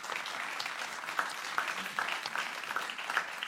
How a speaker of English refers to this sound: And I just hope you'll give a special round of applause to our associate producer,